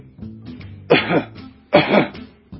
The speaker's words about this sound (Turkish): Şimdi derin bir nefes alın. Öksürün.